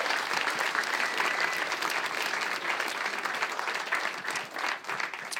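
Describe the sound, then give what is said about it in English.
An audience claps steadily, a dense, sustained wash of many hands, fairly loud throughout with no voices on top, slightly thinning toward the end. “Yeah, give him a big round of applause for that.”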